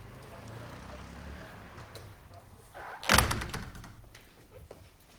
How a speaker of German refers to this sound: Und ich mache hier mal die Tür zu.